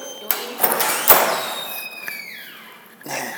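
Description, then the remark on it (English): A few clunks and knocks, then a door squeaks with a long, high squeal that slowly bends downward in pitch before fading out. “The door is actually squeaking.”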